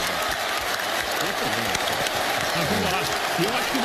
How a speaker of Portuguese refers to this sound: Então, mas é legal, boa essa, parte essa aplaudiu também. Vamos acompanhar o golaço, e a torcida aplaudindo. A torcida aplaudindo.